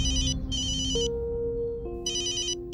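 A telephone rings on and on without anyone picking up, in repeated electronic bursts of bright, high-pitched warbling tones, broken by short pauses, with steady lower tones and a low background rumble underneath; no one speaks.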